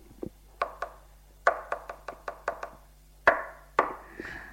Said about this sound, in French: Tape du poing sur la table avec son stylo.